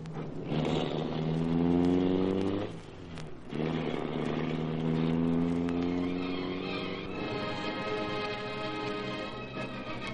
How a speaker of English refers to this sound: All right, start the Black Beauty and don't let that car out of our sight.